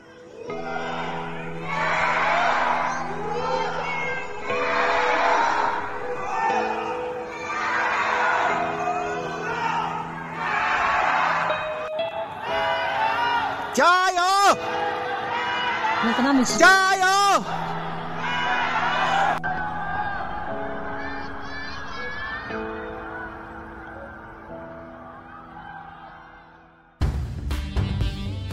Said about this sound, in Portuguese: Teve dias que fecharam a cidade, né, no começo, e foi todo mundo para a janela, né? Gritar força Wuhan em chinês, né? Wuhan jiayou.